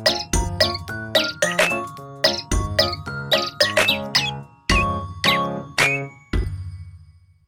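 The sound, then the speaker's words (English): Canaries chirp brightly back and forth in a quick, bouncy rhythm over a jingly tune with deep bass notes, loud, with no talking. “Canary skip beats 2-4. The birds talk about each other, they have enjoyed their conversation.”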